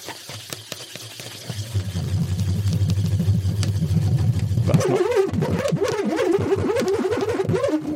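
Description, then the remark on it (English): A nut spins inside a swirled balloon, first a low steady rumbling hum as it slides, then abruptly a loud, rattling, wavering buzz-whine as it starts rolling, like a revving engine. “So it can start off attempting to roll to not roll, and it's just sliding, which is what you heard there. Then it suddenly started rolling, and you suddenly heard the lots and lots of noise.”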